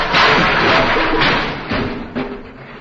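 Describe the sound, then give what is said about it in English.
A long, loud crash of the contents of an opened closet tumbling out and clattering down, with several extra bangs and thuds about halfway through and near the end before the noise trails off. “Okay, but don't open the door. This is the way out. It's the closet. Not the door, it's the closet.”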